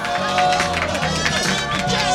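A crowd applauds with steady, dense clapping that holds at an even loudness for about two seconds, with a faint murmur of voices and a low tone underneath.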